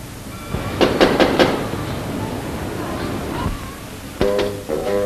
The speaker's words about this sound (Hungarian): Zörgesse csak meg az ajtót.